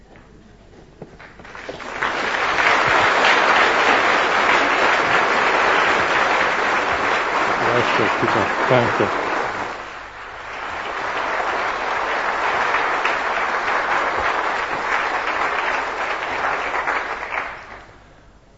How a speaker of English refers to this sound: I don't believe I've ever had so much applause before when I've mounted these pulpit steps.